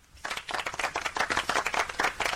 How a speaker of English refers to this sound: Well, I don't know if I give you a round of applause because you've already had one. Well, all right, then. Which means there's a round of applause going begging.